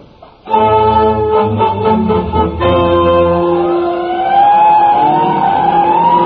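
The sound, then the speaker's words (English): A loud fire engine roars, its heavy engine rumbling while a siren wails and glides up and down over it, steady and continuous with no voices, as fire engines evacuate from a wildfire in Latigo Canyon. “We've got to make our way out. The engines are evacuating now.”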